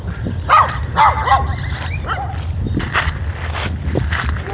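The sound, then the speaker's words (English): A dog that is busy peeing gives a few short, sharp barks and yips in the first second and a half, then quieter scattered sounds follow over a steady low rumble of background noise. “Oops, that dog's busy peeing.”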